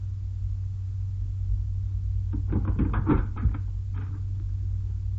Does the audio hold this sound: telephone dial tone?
no